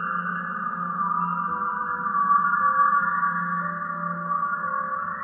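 Whale 52, a deaf whale, sings in long, sustained tonal calls that hold steady over a deep, constant low hum, with a faint higher tone drifting in and out and no voices present.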